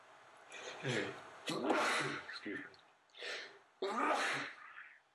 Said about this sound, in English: Bless you.